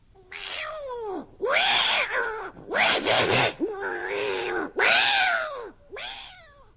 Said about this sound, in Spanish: Aunque me eres simpatiquísimo y no soy racista, ese maullido me pone histérica.